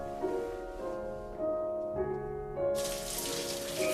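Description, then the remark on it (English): Soft sustained musical tones play throughout, and about two-thirds of the way in a steady hiss of shower water spraying joins in beneath the music, as an elderly man stands with his head under the falling water behind a clear plastic shower curtain. “Viewed through a clear plastic shower curtain, the man stands with his head under the falling water.”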